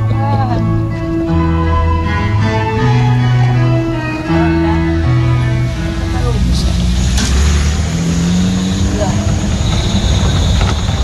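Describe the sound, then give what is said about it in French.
A car engine hums loudly and steadily, its pitch stepping up and down as it drives and shifts gears, with faint muffled voices underneath. “il nous attend avec la voiture. On va y aller.”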